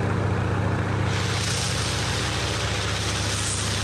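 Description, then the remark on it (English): A loud, steady engine drone with a deep rumbling hum and a broad whooshing roar from a rebuilt aircraft engine with a propeller, mounted on the back of a flatbed truck, built by Dave Groh of Yesteryear Aviation Incorporated for a World War II biplane trainer, holding constant throughout without pause or voices. “That's a rebuilt engine with a propeller mounted on the back of a flatbed truck, but by the time I actually saw it, it was part of Groh's biplane trainer.”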